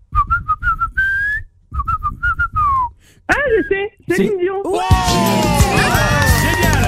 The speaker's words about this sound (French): Il siffle comme personne, à vous de retrouver une grande chanteuse internationale. Exactement. Derrière ce petit sifflet.